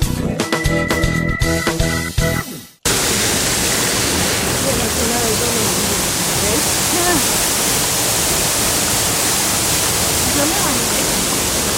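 A brief musical jingle stops abruptly, giving way to a steady, loud rush of flowing water that continues unbroken, like a stream or waterfall, played on Planeta Caracol to give water a voice for the International Day of Water.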